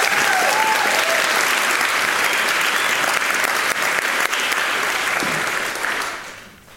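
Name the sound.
applause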